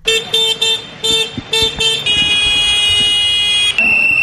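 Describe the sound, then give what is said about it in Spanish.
Tractor horns honk at a farmers' street protest in the centre of Valencia with about 200 farmers and 25 tractors: four short blasts with gaps, then one long sustained blare that shifts pitch near the end, over a rumbling background of engines and crowd noise. “Con este sonido como melodía de fondo y gritos del Camp Valencià Estampeu de Nou per a guanyar la batalla, cerca de 200 agricultores y 25 tractores de toda la comunidad han salido a las calles en el centro de Valencia para exigir soluciones y mejoras”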